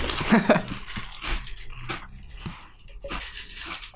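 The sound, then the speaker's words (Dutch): Crunchy bites into a snack, followed by a steady series of crackly chewing crunches about every half second, moderately loud with no talking. “Goeie kraak.”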